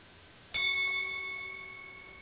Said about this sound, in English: So to begin the rite, we start with our bell.